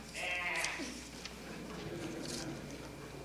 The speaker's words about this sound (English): Could it have been a duck? More likely a lamb or sheep.